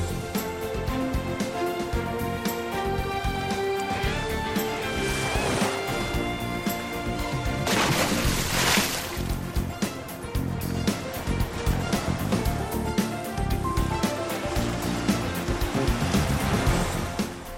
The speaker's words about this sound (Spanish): Este sonidito de las olas del mar da una envidia.